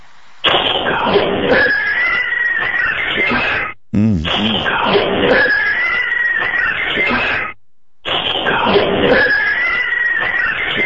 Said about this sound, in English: I want to hear the cat thing again. Okay, here it comes. Here it comes.